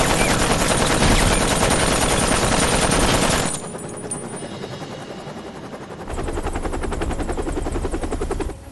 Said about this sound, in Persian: هلیکوپتر.